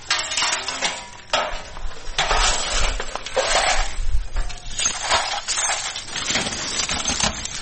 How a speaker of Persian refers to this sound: اینجا خانواده های آسیب دیده در رویداد روز گذشته شهر کابل مصرف جمع‌آوری شکسته های شیشه و وسایل خانه هایشان هستند که به اثر شدت انفجارها از بین رفتند.